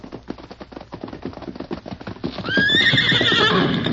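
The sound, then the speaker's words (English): The horse Scout's hooves clip-clop in a steady, quickening rhythm as it comes to a sharp whistle, then a loud, high-pitched whinny breaks out over the hoofbeats and carries to the end. “Good feller, Scout. You come closer. So me get saddle rope.”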